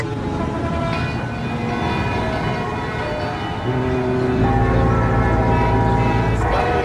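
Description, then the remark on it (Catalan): Alarm bells clang continuously in a dense, overlapping wash of ringing metallic tones, warning the population to evacuate the city before the Martians arrive, staying loud and steady throughout with a low rumble underneath and no voices. “Les campanes que escolten són per avisar la població per tal que evacuïn la ciutat abans no arribin els marcians.”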